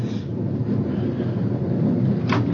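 Heavy rain pours down in a dense, steady roar with a deep rumbling undertone, loud and unbroken, with a brief sharper burst of hiss near the end. No one speaks.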